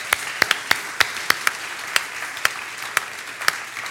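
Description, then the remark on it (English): An audience at a spiritual community service applauds the day after a prayer, a steady wash of many hands clapping with sharper individual claps standing out irregularly over about four seconds, moderately loud with no voices. “Let's applaud the day, okay?”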